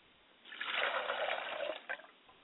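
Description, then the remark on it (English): Water from a glass, poured as a libation for a mother's spirit, pours in a steady, splashing stream for about a second and a half, then stops with a brief final splatter. Fairly quiet, with no voices. “I pour a glass of water for my mother's spirit, and I said, Mother, drink well, and please join us this evening.”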